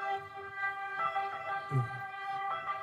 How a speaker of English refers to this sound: Is that an ambulance? What is that? Ambulance or police? I think this is ambulance. Ambulance. Yeah, okay.